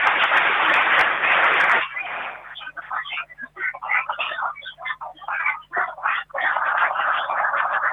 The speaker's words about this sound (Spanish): Pido un fuerte aplauso para ellos.